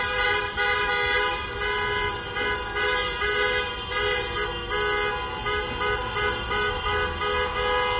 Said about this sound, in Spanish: los trabajadores de Airbus en la Bahía y quienes forman parte de las empresas auxiliares del sector se han echado hoy a la calle para recorrer la capital gaditana en una caravana de coches. Así era el sonido que esta dejaba a su paso.